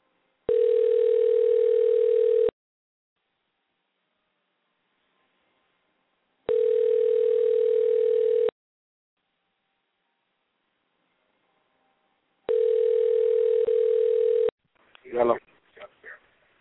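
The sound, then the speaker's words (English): An outgoing phone call from the Bree Life Radio show to a caller rings: three steady, buzzing two-second tones separated by long silent gaps, followed by a short burst of a voice answering at the end. “Let's see if we can get this person on the phone.”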